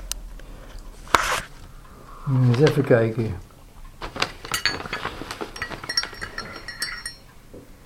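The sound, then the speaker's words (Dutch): Cups and crockery clink in a run of sharp, bright taps as coffee is poured, with a soft liquid pour in the background. A voice speaks briefly partway through, then the clatter continues. “Wat ik nu ga doen is koffie schenken.”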